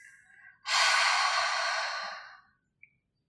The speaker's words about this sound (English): We'll inhale through the nose to fill up the lungs and exhale through the mouth, making a sound like fogging a mirror. So it will sound something like this.